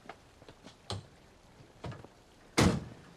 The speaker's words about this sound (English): Now at Elle's house, Elle's father opens the driver's door to his Jeep. Noah approaches him. Hey, Mr. Evans. Mr. Evans closes the car door.